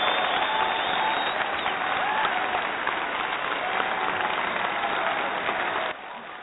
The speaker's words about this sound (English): Let's get some applause.